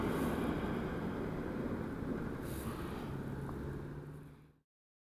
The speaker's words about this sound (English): Car is going to go across our sound field.